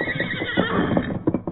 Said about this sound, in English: Good horse. You left your master when I called you. Good boy, Scout.